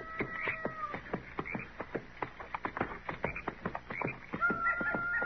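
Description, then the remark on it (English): A chorus of coyotes howling and yipping up around river bluffs by a bend in the river, with high wavering cries overlapping a rapid stream of sharp, choppy yelps that runs throughout, fairly loud and with no voices. “It sounds to me like most of those coyotes are up around those river bluffs there by the bend.”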